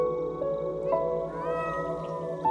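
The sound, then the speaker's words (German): Cats on a meadow meow in a steady, overlapping chorus, their drawn-out tonal cries rising and falling, with a few sharper calls breaking through. No one speaks. “Sie führt dich über die gesamte Wiese, auf der du noch einige weitere Katzen entdeckst.”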